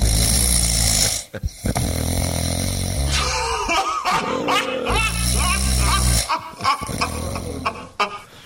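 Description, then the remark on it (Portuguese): Loud, rasping snores rumble in repeated long breaths, with harsh throaty rattles that sound almost like a growling dog, broken by brief pauses between them. “Ah, gostei desse roncador aí, viu?”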